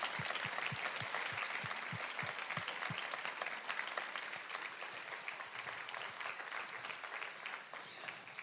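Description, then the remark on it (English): A crowd claps steadily and warmly, the dense applause going on for several seconds, with a few distinct heavier claps early on before it settles into an even wash. “And let's give him one more round of applause, not just for this, but for the past several years.”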